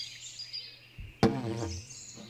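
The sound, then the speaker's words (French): A person voices a short, two-syllable imitation of a small bird's chirp, fairly loud, over a faint, steady high-pitched background hiss. “Cui-cui.”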